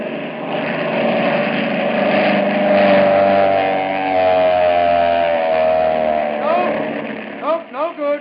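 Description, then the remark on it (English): A steady airplane engine drones loudly and continuously, a low humming roar with a constant pitch, as searchers fly back and forth over a territory on a search flight; a voice briefly breaks in over it near the end. “For 2 days, the searchers flew back and forth over the territory where Eagles and the boy had been last seen.”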